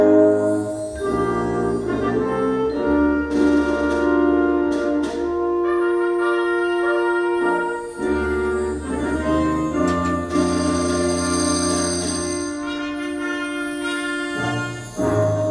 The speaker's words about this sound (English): Do you hear how hollow that bum ba da bum bum sounds? couple too many bass drum hits too. You've got a bass drum hit in the middle of something there where it's not supporting the tuba, and it's not like, listen to me play by myself.